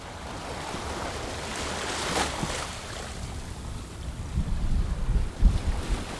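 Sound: ocean waves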